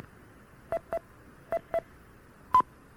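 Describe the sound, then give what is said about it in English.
Four short touch-tone bursts in two quick pairs, then after a pause a single slightly longer, higher beep, all over a faint steady hiss of radio noise. The tones command an 850 remote controller over radio, and its high or low beep reports whether an output is on or off. “The controller responds with a high or low beep to tell you the output state.”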